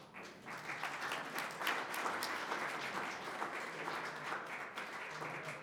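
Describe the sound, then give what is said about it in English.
Steady applause from a crowd after a speech celebrating an accomplishment, a dense, even patter of many hands clapping that holds at a constant level for several seconds without any talking. “I think that applause reflects the appreciation of our leadership in terms of this whole process, which has been tedious and long, but obviously now rewarding.”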